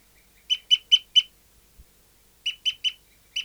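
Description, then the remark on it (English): A bird, recorded as bird 59, calls repeatedly in short, harsh, evenly spaced bursts: a run of four notes, a brief silence, then three more and a final one, with no other sounds. “So recording bird 59 is still tooping after 30 seconds.”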